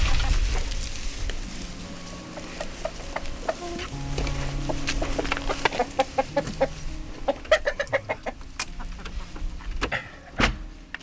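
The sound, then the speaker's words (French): Several hens cluck in short, irregular bursts that grow busier toward the end, over a steady low rustling background with no talking. “Ça, c'est pour les poules.”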